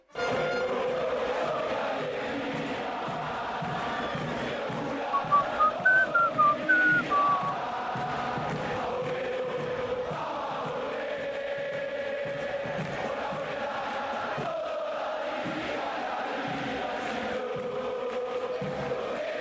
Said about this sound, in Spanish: Y la reversión, que es Cuervo Sos Mi Alegría, a cargo de los hinchas de San Lorenzo.